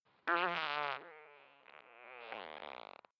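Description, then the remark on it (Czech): A faint, drawn-out fart in a library's adult classic literature section, among the shelves, buzzing and slightly tonal like a tiny trumpet, wavering in pitch for about three seconds and ending in a quick sputtering flutter. No one speaks. “Znělo to jako větry a ozývalo se to z oddělení klasické literatury pro dospělé.”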